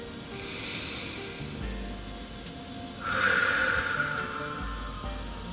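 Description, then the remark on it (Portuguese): A slow, airy breath in through the nose, a brief pause holding the breath, then a longer, louder breath out through the mouth, as part of a relaxation breathing exercise. The breathing is clear, with no one speaking. “Inspire lentamente pelo nariz, segura um pouquinho a respiração e solta pela boca.”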